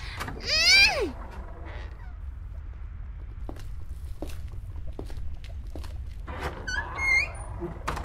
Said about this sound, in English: Daddy said if I got bored, I could go into his study. But what do I even do there? I guess I have no other choice then. Why is Daddy's door so heavy?